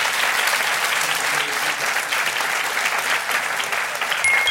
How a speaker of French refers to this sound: on vous applaudit, on vous encourage pour le jeu.